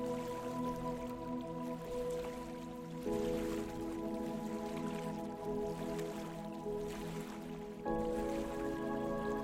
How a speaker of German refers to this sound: Das angenehme Plätschern des Wassers beruhigt dich automatisch.